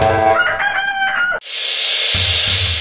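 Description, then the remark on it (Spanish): A loud rooster crows once in a Laboratorios Tornel advertisement, a strained, harmonic call lasting over a second, then cuts off abruptly into a steady wash of hissing noise. “Creamos bienestar. Un gallo sano.”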